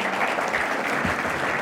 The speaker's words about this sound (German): Oh, noch einmal ein Applaus für euch, wenn ihr den Stuhl mitnehmt.